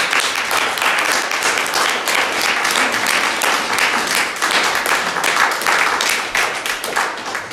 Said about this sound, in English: We're going to give them another big round of applause. Let's do that.